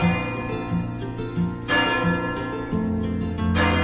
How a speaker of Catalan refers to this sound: Les campanes toquen 9:15